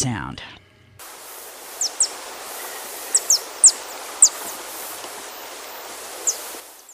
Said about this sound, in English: That was the piping of the Vox Swift, a true bird of the Pacific Northwest. The Vox Swift spends almost all of the daylight hours in the air foraging for insects.